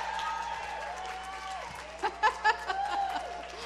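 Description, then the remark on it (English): A crowd cheers and claps in a steady, noisy wash of many overlapping voices, with a few sharper, louder bursts of shouting partway through, cheering on a woman in a close race in the home stretch. “Cheer her on.”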